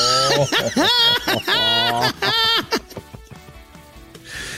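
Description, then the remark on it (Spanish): A person loudly imitates an eagle's cry: about four shrill, warbling screeches in quick succession, each quavering up and down, then fading into quieter, muffled background noise. “¿A poco no hacen así las águilas?”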